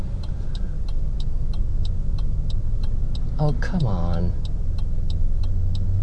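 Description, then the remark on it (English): A car drives along with a steady low road and engine rumble, turning onto a street called Wyoming, a turn signal ticking in an even rhythm throughout, and a person briefly speaking midway. “So I'm turning into Wyoming, the street that would allow me, oh, I hope.”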